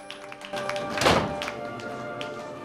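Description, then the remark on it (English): In an office, a door is let swing shut behind a man walking out, with one dull, solid thunk, preceded and followed by a few light taps against a steady faint tonal hum. No one speaks. “Viv lets the door close behind him.”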